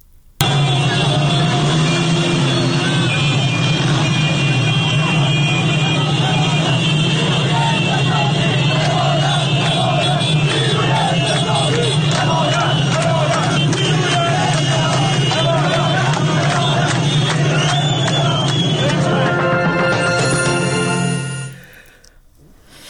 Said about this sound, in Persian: تنها خبری که از یک راهپیمایی خیابانی باز ما داشتیم که با شعار همراه بود، ویدیوها و خبرهای بود که از یافت‌آباد تهران، بازار یافت‌آباد تهران ما داشتیم. چند ثانیه صدای مردم رو بشنویم، بازاری ها رو در این تظاهرات.